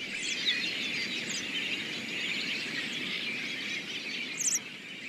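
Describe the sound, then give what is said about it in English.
A flock of American robins call in a busy overlapping chorus of high, thin chirps and sharp notes, steady throughout with a few brighter calls standing out, no voices present. “A flock of a dozen robins can strip a heavily laden cotoneaster of every last berry in half an hour.”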